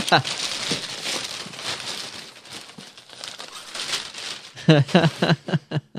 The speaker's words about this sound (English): This paper is actually so cool that I'm trying not to rip it. I'm doing the mom thing, you know, at Christmas.